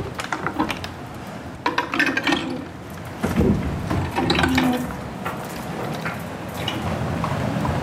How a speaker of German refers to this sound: Ja, jetzt dreht sich das Wasserrad außen und auf derselben Welle liegt unser großes Zahnrad. Und es wird dann auch gedreht und geht dann über noch zwei weitere Zahnräder zu unserem großen Schleifstein, der normalerweise durchs Wasser läuft unten.